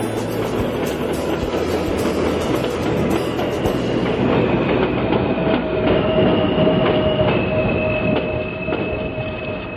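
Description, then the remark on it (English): A downtown subway train rolls steadily along the rails, a dense rumbling roar with a thin metallic wheel squeal rising and falling over it, loud throughout with no voices. “But anyway, the downtown train is already pulling up, and it's too late.”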